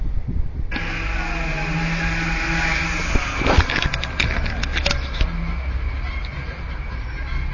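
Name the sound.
heavy street traffic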